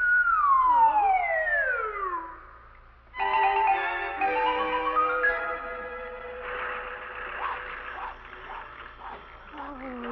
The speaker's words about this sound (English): Oh, dear, that phone is driving me distracted.